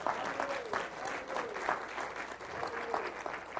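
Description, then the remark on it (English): A church audience breaks into steady applause during a morning worship service, dense overlapping claps filling the air continuously, with a few faint voices and calls mixed in beneath the clapping. “Somebody ought to clap this morning.”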